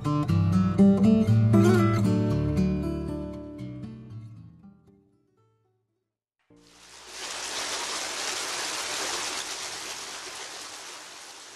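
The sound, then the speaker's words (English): Soft music fades out into a brief silence, then a steady, full rush of water flowing from a fountain in Rome takes over, constant, with no voices. “The constant flow of fresh water through the aqueducts and fountains of Rome has been a characteristic feature of the city since its earliest beginnings.”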